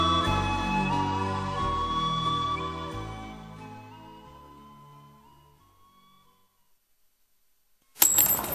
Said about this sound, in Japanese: あれ、またお金を落とした音が聞こえる。どこにも落としてないのにな。